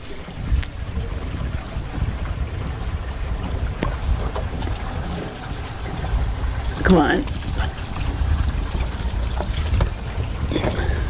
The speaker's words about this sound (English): Come on. And we siphon as much water out as we can get. No need messing around with 60 gallons of water.